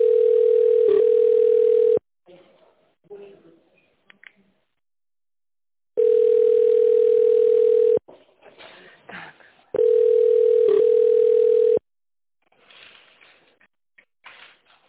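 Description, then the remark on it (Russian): A telephone ringback tone sounds three times, each a loud steady two-second tone with long pauses, while faint background sounds fill the gaps between rings. “Звонит.”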